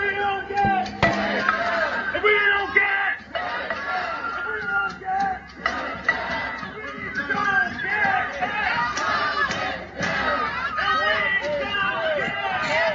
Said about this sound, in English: All right, so the point is, this guy is trying to get past this crowd of tenants, people, to go in to file his eviction, and they won't let him.